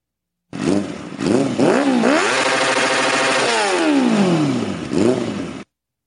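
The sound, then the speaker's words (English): The two-stroke engine of an Ariel Leader motorcycle revs up repeatedly, its pitch rising and falling in several sharp blips before a long sustained roar that drops away, loud with no talking. “Best bike in the world, the Aerial Leader.”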